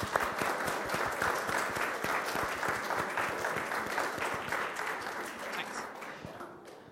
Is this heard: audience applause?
yes